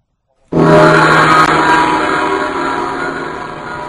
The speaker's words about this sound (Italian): Accipuffolina, che gong potente.